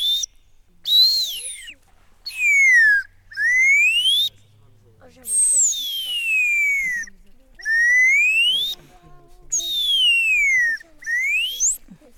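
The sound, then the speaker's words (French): A handmade bird call whistle, made for the same kind of bird found at the church, blown in a series of about eight shrill, sliding notes, each lasting roughly a second and mostly gliding downward in pitch, separated by brief gaps. “Ça, c'est pour le même genre d'oiseau qu'il y a justement à l'église.”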